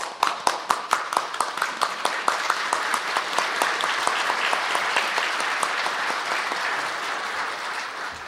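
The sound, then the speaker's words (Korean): Three people stand and clap together on stage at a panel discussion, beginning with distinct, separate claps that quickly thicken into steady, continuous applause lasting several seconds, fairly loud, with no talking. “여러분들 가만히 계시고 우리 셋이 한번 박수를 치겠습니다.”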